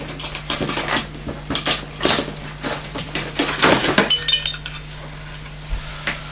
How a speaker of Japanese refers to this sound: ワンワンアイスクリーム食べてるね。